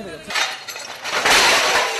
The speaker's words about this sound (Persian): شدت انفجار به حدی بود که شیشه های منازل اطراف را فرو ریخت و مردم را سراسیمه کرد.